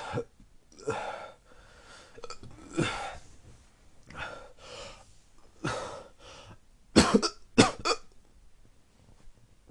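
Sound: coughing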